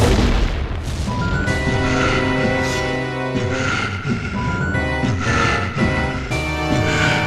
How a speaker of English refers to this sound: But suddenly, we and the characters hear a sound. Another nod to the importance of audio in this story. It sounds like a metal bang. The wind goes silent.